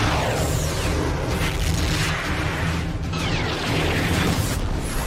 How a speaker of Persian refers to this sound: هدف مشخص شد، در حال محاسبه شلیک. بزنش. اطاعت قربان، شلیک موشک.